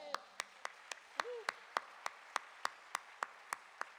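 Applause made of about fourteen sharp, evenly spaced hand claps in a steady rhythm, moderately loud over a faint murmur of background voices.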